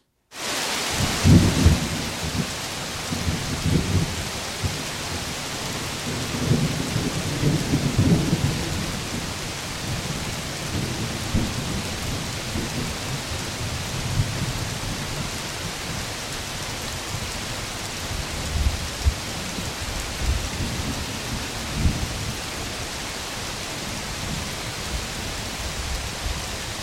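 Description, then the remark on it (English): Heavy rain pours steadily in a dense wash of noise while deep rolls of thunder rumble repeatedly through a rainforest storm in the Tanjung Harapan Forest, Borneo, recorded in 1991, no voices present. “The rain, thunder, and lightning coming on like a freight train.”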